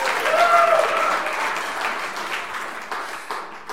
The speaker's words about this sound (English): There it is. There it is. Now you can clap.